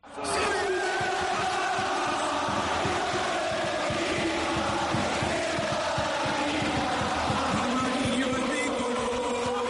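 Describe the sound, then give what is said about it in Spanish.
A dense crowd of Unión Deportiva Las Palmas football fans roars and chants at the final whistle, celebrating the club's promotion to the Spanish first division, a loud, sustained wall of cheering voices with rhythmic surges and no pauses throughout. “cómo lo festejaron con los aficionados de la Unión Deportiva Las Palmas. Nos han pedido que repitamos esos sonidos”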